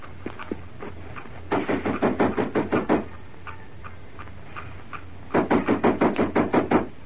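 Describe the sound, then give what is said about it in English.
Two bursts of rapid, firm knocking on the wooden side door of Tai Sha Shung's house during the Feast of the Lanterns, each about eight quick raps, separated by a pause, with a few faint taps before the first. No voices. “Come on, we'll knock at the side door of Tai Sha Shung's house.”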